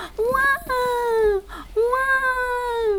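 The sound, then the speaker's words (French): A voice imitates a baby crying with two long, wavering wails separated by a short breath, loud, with no other sounds around it. “Tante Fanny était un bébé, Tante Fanny était un bébé, elle faisait comme ça.”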